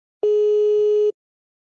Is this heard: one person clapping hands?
no